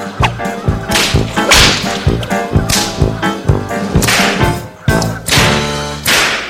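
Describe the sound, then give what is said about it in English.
A whip cracks again and again, loud, each sharp snap landing in a quick, uneven rhythm over a dense musical backing that plays throughout. “Then he took the whip and gave the king lessons in whip cracking.”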